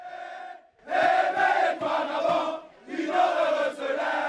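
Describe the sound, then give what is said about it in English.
A large crowd of residents cheers and shouts in the streets of Libreville, Gabon, celebrating after soldiers seized power following election results, in loud, surging bursts, voices rising into chant-like yells over scattered clapping, with a brief lull before the roar swells again. “In Gabon, an election is erased to thunderous applause.”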